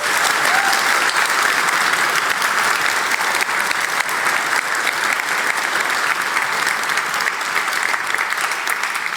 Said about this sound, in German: Also vielen, vielen Dank und bitte einmal kräftigen Applaus.